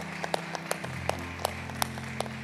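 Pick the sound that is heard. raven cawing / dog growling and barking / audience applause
audience applause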